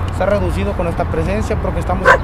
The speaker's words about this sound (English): a neighborhood dog napping nearby woke up and started barking.